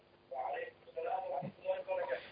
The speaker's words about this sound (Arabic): اخفضي صوت التلفاز واسمعيني من الهاتف.